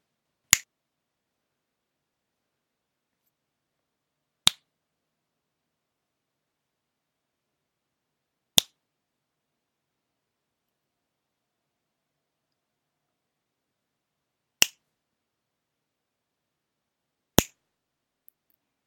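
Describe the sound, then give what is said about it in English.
Five crisp finger snaps ring out one at a time, spaced unevenly by several seconds of silence. Each snap is a sharp, bright click, and no one speaks. “Then tell me, why does my cock twitch every time I snap my fingers?”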